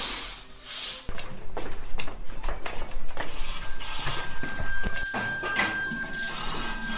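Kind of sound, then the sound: household object, telephone ringing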